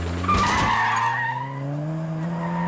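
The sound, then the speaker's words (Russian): A brief, harsh crash of breaking glass and metal grinding against metal bursts out early as a Mercedes turns from a wide street into a narrow lane, followed by a loud, steadily rising engine roar with tire squeal as the driver sharply accelerates, no voices. “В этот момент раздается звон стекла и скрежет металла о металл.”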